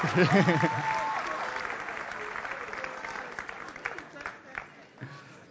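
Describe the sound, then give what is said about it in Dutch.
An audience claps for a participant who may collect 2 euros after a coin-toss game, in a dense, crackling burst that slowly thins and fades over several seconds, ending in a few scattered claps; a voice calls out briefly over the start. “Een hartelijk applaus, je mag de 2 euro halen,”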